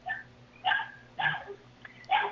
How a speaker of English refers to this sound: Can you tell the dog, if he keeps barking like that, I'm going to fuck him and eat him?